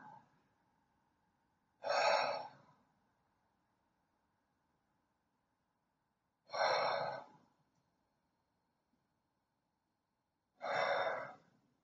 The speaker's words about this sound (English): And begin by taking three deep, heavy breaths.